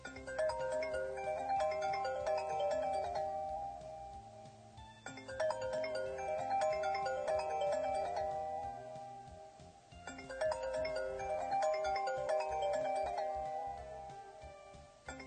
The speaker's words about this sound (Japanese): で、その着信音ですけども、このサイトから、サウンドクラウドのデータとして聞くことができます。これがね、iPhone X 専用の着信音だそうですよ。